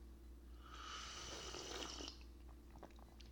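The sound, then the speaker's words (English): A long, airy slurp of tea into a microphone lasting about a second and a half, hissy and wet with a faint whistling tone, followed by a few soft clicks over a low steady hum. “Get that slurp in the mic.”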